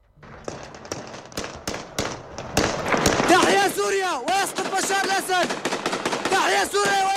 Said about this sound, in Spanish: En las calles de Damasco el sonido de los disparos se repite de manera constante. La ciudad es un ir y venir de milicianos que han acudido a celebrar la caída del régimen